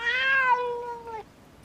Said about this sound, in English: A cat.